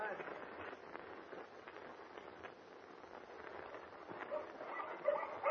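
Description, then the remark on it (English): A pack of huskies barking and yelping together, a steady, busy chorus with a few sharper yelps toward the end, set against a noisy outdoor background. “Those huskies bark, Mr.”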